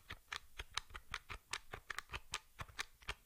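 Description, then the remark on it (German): Soft, rapid clicking of Braille keyboard keys being typed on a switched-off device held close to the microphone, several keys pressed, about a dozen and a half light taps in quick, uneven succession with no voices, each tap a short, crisp plastic tick. “Ich tippe jetzt hier mal bei ausgeschaltetem Gerät und halte das mal relativ nah ans Mikrofon.”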